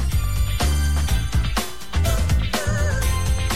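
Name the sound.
mobile phone ringtone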